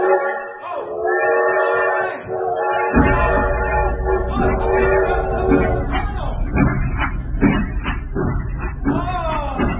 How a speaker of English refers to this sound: I tell you what, I sure hope this train starts up.